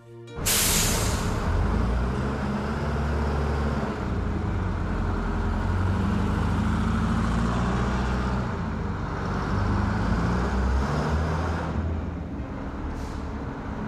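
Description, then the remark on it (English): A city bus lets out a sharp hiss of air brakes as it pulls up, then its heavy diesel engine idles loudly and steadily, with a low rumble and road noise around it. “Come on, move to the rear of the bus!”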